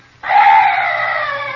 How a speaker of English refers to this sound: Oh, what's that? Oh, some night bird. Yes, that's all.